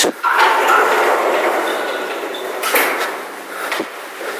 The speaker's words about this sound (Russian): действительно есть дверь пожарного выхода с огромной такой, как-то сказать, длинной ручкой, на которую нужно нажать, чтобы из него выйти.